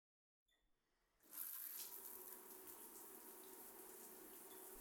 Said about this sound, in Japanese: それじゃあ、シャワーかけますね。